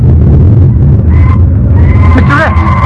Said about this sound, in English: Now Ken and Pagon stand in the desolate camp, watching a screeching parrot waddle away through the snow.